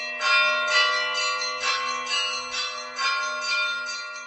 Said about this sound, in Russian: И поэтому колокольный звон в этот день особенно торжественный, особенно радостный, особенно звучащий и веселящий души людей и прославляющий Бога.